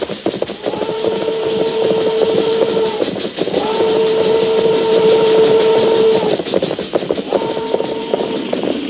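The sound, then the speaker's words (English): A slow-moving train rumbles steadily along the rails, loud, while three long, drawn-out whistle blasts sound over the continuous clatter and roar. “Train go plenty slow now.”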